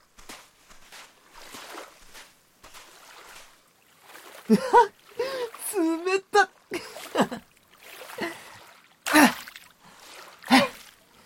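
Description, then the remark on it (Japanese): Feet kick through shallow seawater at the sea in sunlight in a series of quick splashes, the kicked spray making a rainbow, with a voice making soft laughs and exclamations between the kicks. “蹴った波が太陽の光に当たって虹ができるんだよ。”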